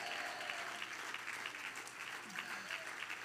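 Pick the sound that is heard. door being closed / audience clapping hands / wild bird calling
audience clapping hands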